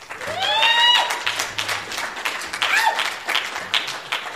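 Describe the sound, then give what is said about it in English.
An audience applauds a speaker steadily, many hands clapping in a dense, sustained patter, with a few brief whoops and cheers rising above the clapping. “So let's turn time over and give him a round of applause.”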